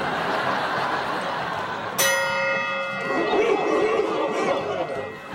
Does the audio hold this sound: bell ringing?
yes